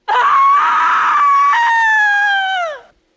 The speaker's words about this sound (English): a broken-down Jack has placed her scream in the slasher film that began the movie